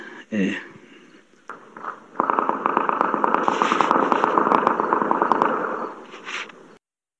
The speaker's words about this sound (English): I know it's hard to hear, but you could hear the gunshots in the distance.